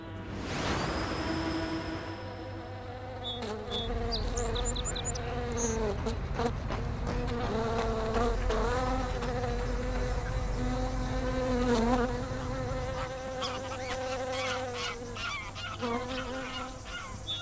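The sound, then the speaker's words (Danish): Honeybees buzz steadily, a dense, droning hum of many wings that rises and shifts in pitch as individual bees take off from the edge of the hive, where they gathered in the sunshine to warm up before flying off, continuing throughout without any talking. “De samler sig på kanten af bistedet. Når de har varmet sig lidt i solen, så flyver de afsted.”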